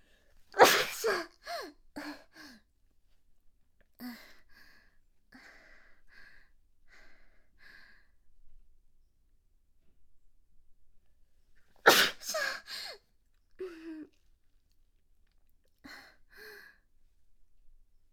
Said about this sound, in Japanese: すいません、多分くしゃみの時の音めちゃくちゃ大きいですよね。音量ご注意ください。